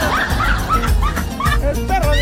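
A dog barks repeatedly in quick, yappy bursts, about four or five sharp calls in a steady rhythm, loud over a busy background.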